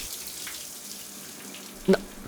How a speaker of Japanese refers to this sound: はあ、熱いシャワーが気持ちいい。